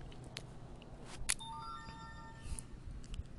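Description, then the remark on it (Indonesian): A short electronic phone alert chimes once, a few clear bright tones sounding one after another and quickly fading, fairly quiet over low background noise with no one talking. “Sorry ada notif.”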